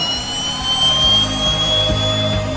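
A jet engine roars steadily, a dense rumbling rush topped by a thin, sustained high-pitched whine, loud and continuous throughout with no voices.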